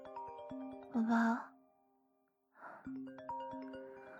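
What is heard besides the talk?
mobile phone ringing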